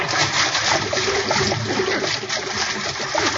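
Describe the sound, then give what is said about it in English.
Water churns and splashes continuously as a boat sinks, a dense, steady rush of sloshing and bubbling that stays loud throughout, with no voices. “Well, there goes the Nancy Root. Best boat I ever owned.”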